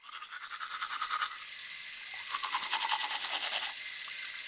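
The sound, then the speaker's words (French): Rapid, scratchy strokes of a toothbrush as a child scrubs their teeth in a bathroom, steady, with a brief pause before the brushing resumes more vigorously. No one speaks. “Mais pourquoi? Je me brosse les dents.”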